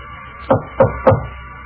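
Three evenly spaced knocks on a door, each a short, solid thud with a dull low-mid body, standing out over a faint steady background hum.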